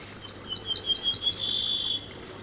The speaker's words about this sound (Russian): Песня садовой овсянки похожа на песню обыкновенную, только чуть грубей и короче.